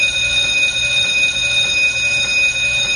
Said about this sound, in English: It's a long bell.